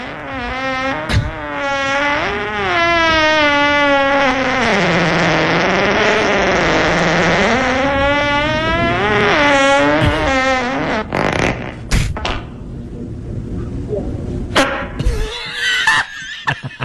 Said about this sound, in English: Was that a fart? I don't know.